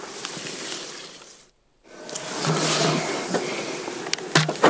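People spraying themselves with insect repellent from an aerosol can at their car: two long, loud hissing bursts separated by a short silent pause, with a few light clicks and rattles near the end.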